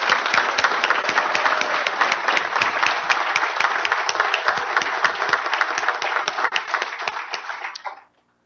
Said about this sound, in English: Tonight's discussion here has been great, and I really want to thank all the candidates. So please join me in another round of applause for all of our candidates.